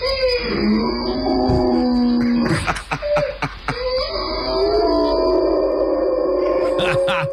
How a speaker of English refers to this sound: He shared a little clip of the dog hearing his voice and giving a very happy response. Are you ready? Yo, this dog is amped when it sees its owner. Take a listen.